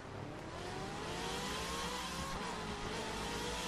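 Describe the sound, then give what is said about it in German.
A loud car engine revs hard and steadily throughout, with rising whining tones and a brief tire squeal, a fast-moving car in a chase catching up with a fleeing man. No talking. “2 Minuten später schien der Kollege mit seinem Auto und sie konnten Burak tatsächlich einholen. Die Verfolgungsjagd spitzte sich zu.”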